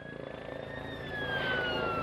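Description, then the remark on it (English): Emergency sirens wail from far away at the scene of a train derailment near Stonehaven, Scotland, a thin high tone slowly sliding downward over steady background rumble, faint but continuous throughout. “The sound of sirens could be heard from afar, and thick smoke billowed from behind the hilly terrain.”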